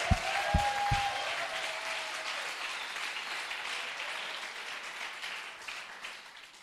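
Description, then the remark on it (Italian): An audience at a Christian sermon applauds loudly for Christ in a dense, sustained wash of clapping that holds steady for several seconds, with a few low thumps and a brief ringing tone at the start. “Oh, e se per Cristo dallo forte questo applauso.”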